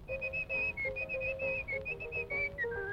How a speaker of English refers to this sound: On the Bowery, there's a whistling boy,